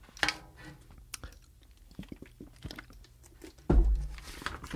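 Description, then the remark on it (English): Someone takes a sip of water: wet mouth clicks and quiet slurping and swallowing sounds, ending with a louder low thump like a cup being set down. No talking. “Just had to take a sip of water, and I don't drink the tap water in my town, and I'll tell you why.”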